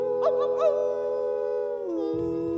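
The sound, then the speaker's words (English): Voices imitate howling at the moon, giving three quick rising yelps over a long, steady harmonized wail that slowly slides down in pitch, fairly loud. “We're gonna hoop and holler and howl at the moon. Ow, ow, ow.”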